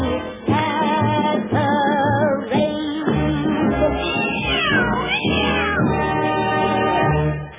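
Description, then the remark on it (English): A voice imitates cats, giving a steady run of loud, drawn-out meows and yowls that rise and fall in pitch over continuous musical accompaniment. “There goes the pussy cat parade.”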